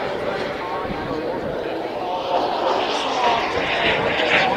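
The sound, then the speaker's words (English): A model aircraft engine drones steadily overhead, a loud, continuous high-pitched buzz that swells slightly louder toward the end as it passes. “You can see these are model aircraft. They fly just like proper planes.”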